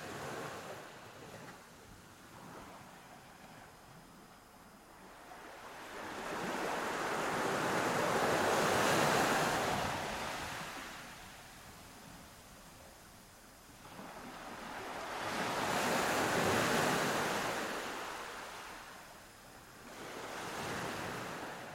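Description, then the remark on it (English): Ocean waves roll onto a beach in slow, regular surges, each broad wash swelling and fading about every seven seconds over a steady hiss of wind, with no voices. “journey with me as we go onto the beach where the seagull resides.”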